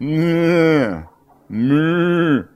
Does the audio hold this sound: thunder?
no